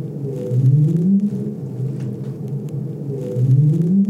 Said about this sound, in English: This is a right whale sound. So right whales make an upsweep. Yeah. We can detect those pitch tracks really well.